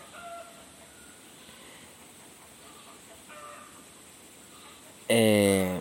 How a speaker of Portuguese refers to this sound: Cara, os galos estão dando alarme ali um tempão, tô quase indo lá agora.